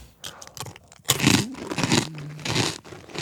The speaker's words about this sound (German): Oh, jetzt krümel ich auf den Tisch.